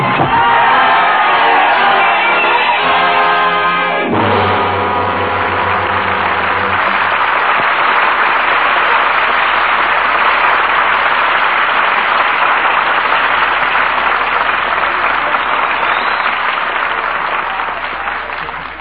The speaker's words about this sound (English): We lower our curtain on the roaring crowds of Paris and the sacrificial destiny of Sidney Carton